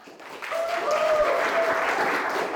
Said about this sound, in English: On this day in early March, every seat in the museum's cafe is filled. Patrons of all ages intently listen to spoken word and music performances. The crowd erupts into applause, hoots, and hollers between each performance.